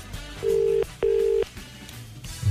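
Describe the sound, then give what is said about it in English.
An outgoing phone call's ringback tone: two short, steady electronic purrs in quick succession, the classic double-ring pattern, clear, with no talking over it. “It's ringing.”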